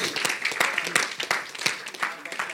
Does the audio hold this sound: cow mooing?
no